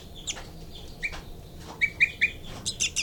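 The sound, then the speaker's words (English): Baby birds give a rapid series of thin, high-pitched begging chirps, clustering in quick bursts toward the end, clear over a quiet background with no talking. “3, 3 there. Baby begging.”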